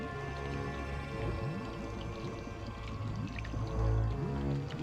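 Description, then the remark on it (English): Thick, sticky swamp mud of sinking sand bubbles and gloops continuously, with wet plops and low burbling pops rising through a steady, murky rumble, one deeper gurgle swelling near the end. “they reach a bubbling, gloopy swamp. The sinking sand.”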